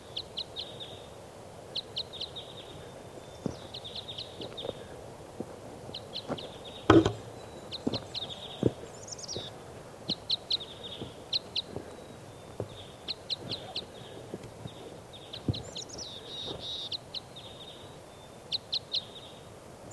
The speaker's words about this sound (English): recording our crossbills here now. It's 5:07 a.m. It's on like type 5s.